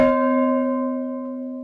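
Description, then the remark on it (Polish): A single strike of an iron bell, made of iron because of the First World War, rings out with a sharp onset, then a steady, low, harmonically rich tone slowly fades over more than a second. No voices are heard. “Natomiast ten następny, który teraz uruchomimy, jest żelazny, właśnie też przez pierwszą wojnę światową, to mamy taki dźwięk.”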